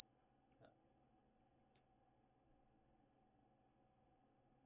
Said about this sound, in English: The next tone we are going to hear is 5,000 hertz. And we might start losing people here. Not out of impatience, but people might not hear these tones. They're getting kind of high-pitched. 5,000 hertz.